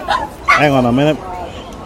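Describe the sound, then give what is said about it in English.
A puppy barks: a quick yip followed by one longer, drawn-out bark with a whiny tone, then quiet background murmur. “And a puppy barking, and I have ceased shoveling.”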